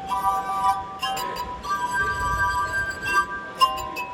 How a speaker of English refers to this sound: began playing the glass harp 50 years ago. Although he also plays other instruments, the glass harp is his passion.